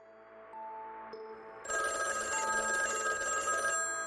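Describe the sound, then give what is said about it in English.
A telephone rings with a bright, trilling electronic tone, starting with a softer tonal lead-in before the full ring bursts in loudly and continues steadily to the end. “I picked up the phone and said hello.”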